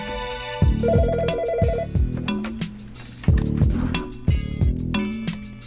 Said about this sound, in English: Oh, we got a caller, baby! Whoops. Yo, man, pass me the phone, man.